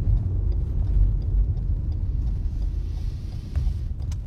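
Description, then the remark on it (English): A car backs up very hard, its engine a steady, heavy low rumble that stays loud throughout, with faint clicks and rattles above it and no voices. “This car is backing up very hard.”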